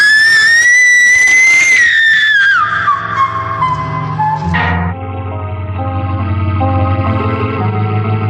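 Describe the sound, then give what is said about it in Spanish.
Loud, blaring trumpet blasts from lamas sounding their trumpets atop high walls ring out with no voices: a high sustained note slides downward, then deeper, buzzing horn tones hold and overlap until the end. “Los lamas están haciendo sonar sus trompetas en lo alto de las murallas.”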